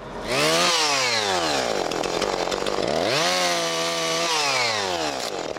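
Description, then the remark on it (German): A chainsaw roars steadily, its pitch sagging as the blade bites into wood and climbing again as the cut eases, twice over, loud and with no voices. “Männer, die mit Motorsägen umgehen können, mit Baggern und mit Pferden.”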